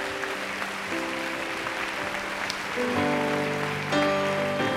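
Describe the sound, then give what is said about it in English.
A church audience gives a clap offering to thank God after a prayer, a steady, dense wash of applause while sustained keyboard chords play underneath, the music growing louder partway through. “Would you thank God with a clap offering again?”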